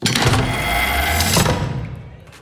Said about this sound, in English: Sam approached the console, and 7 beeps later, a pneumatic hiss, metallic clank, and the door slid open.